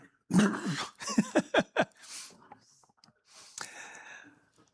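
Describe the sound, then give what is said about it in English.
A dog retches in a burst of rhythmic, gulping heaves in quick succession, followed by wet, breathy hacking and sputtering as it throws up underneath a table. “And then, boom, the dog throws up underneath the table.”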